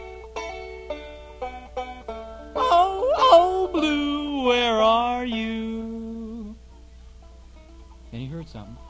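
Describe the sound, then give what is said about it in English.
A voice imitates a blown horn: a long, wavering hooted tone that begins softly, swells loudly with a rising wobble, then holds and slowly sinks before fading, followed by a brief vocal sound. “So he took a deep breath and he gave that horn the biggest blow that he could, and he went.”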